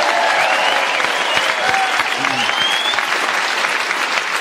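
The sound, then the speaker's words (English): Sustained audience applause for the winner of the game, who scored a record 24 points: a dense steady wash of clapping at full volume with a few faint cheers and whistles rising through it, holding evenly for several seconds. “A round of applause, our winner.”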